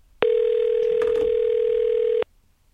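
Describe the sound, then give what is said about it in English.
A steady, loud telephone dial tone for an outgoing call holds one unbroken pitch for about two seconds, starting and stopping abruptly, with faint background murmur beneath it. “Actually, can we get Heidi on the phone?”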